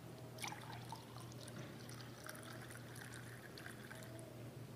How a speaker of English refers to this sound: And after they were finished eating, he took a cup of wine and he poured it out.